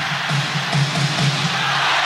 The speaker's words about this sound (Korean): 이럴 때 관중들의 응원이 더 시끄러워야 됩니다. 더 크게.